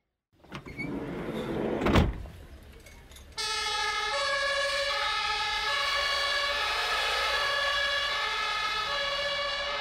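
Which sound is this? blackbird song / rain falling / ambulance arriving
ambulance arriving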